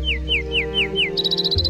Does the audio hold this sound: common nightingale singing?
yes